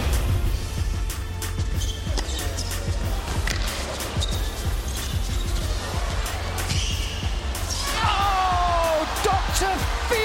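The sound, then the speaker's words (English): A tennis crowd cheers loudly and steadily as Rublev breaks Team World and Kyrgios ignites the crowd with a shimmy, a dense roar of yells and whoops with sharp claps and shouts scattered through it, and shrill whistles rising and falling near the end. “And he will ignite this crowd.”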